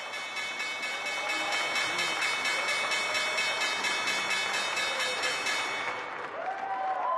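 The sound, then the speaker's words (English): A stock exchange opening bell rings loudly and without a break for about six seconds at the regular cash open of the trading day, its bright metallic tone riding over a thick wash of applause and crowd noise before cutting off. “There you hear the opening bell.”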